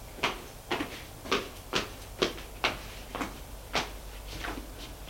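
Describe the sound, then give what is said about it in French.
A woman at the bottom of the stairs rattles and jerks a key-locked door repeatedly, about nine sharp knocking clunks in a steady, insistent rhythm, moderately loud, as she tries to force it open. No one speaks. “La porte est fermée à clé.”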